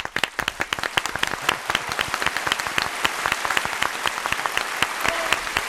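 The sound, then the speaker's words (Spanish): Steady applause from a group, many hands clapping in a dense, crackling wash with sharper individual claps standing out, holding at an even level throughout. “Sin duda, el aplauso del día para esa apuesta y esa sensibilidad alemana.”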